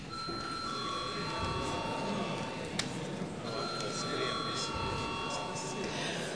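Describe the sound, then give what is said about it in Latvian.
A parliament session bell rings steadily, a sustained electric tone that briefly pauses midway and then resumes, over a background of room noise and indistinct murmuring. “Lūdzu, zvanu.”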